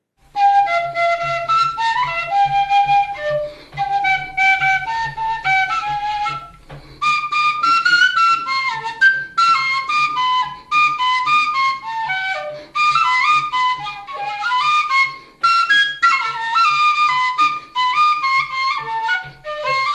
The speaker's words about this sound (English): This one had me on a penny whistle with ….